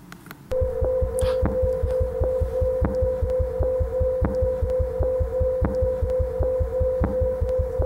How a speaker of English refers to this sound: It's an eclipsing binary. This is time and days, and this is the Fourier domain, so this is a periodogram. But it sounds really cool, so I'm going to play it for you.